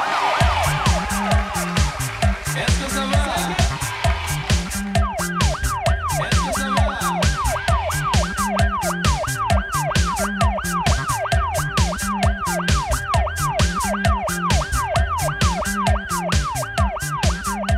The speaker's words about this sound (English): The siren is on the radio in your car.